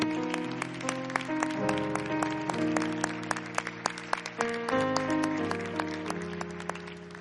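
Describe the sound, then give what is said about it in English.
A church audience claps in a loose, uneven patter, the adults applauding the church's young people, over sustained organ chords that shift every second or so, with no one speaking. “Young people, you don't clap. Adults, you thankful for them?”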